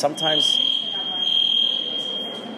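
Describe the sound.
A steady, high-pitched electronic alarm tone sounds continuously at moderate loudness, with a brief stretch of speech at the start and faint background noise beneath.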